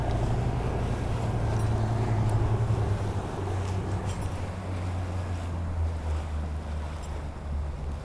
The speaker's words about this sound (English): the crew fill the rescue dinghy with life jackets and we set off towards the boat. So we've slowed down, we're approaching from behind.